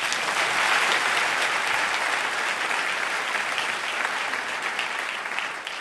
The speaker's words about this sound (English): I'd like to reintroduce you and have everybody applaud for you again, and you can enjoy that. Ladies and gentlemen, let's welcome John Steele Gordon.